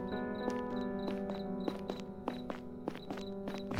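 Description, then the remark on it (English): Steady footsteps walking on a dark street at an even pace, about two steps a second, each sharp, over a constant low droning hum. “Why am I hearing another set of footsteps?”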